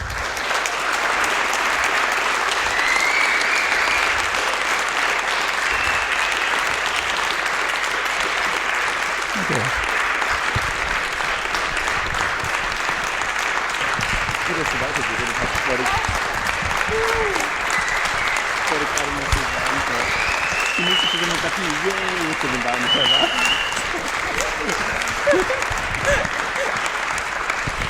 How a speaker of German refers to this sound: Verdienter Applaus, würde ich sagen.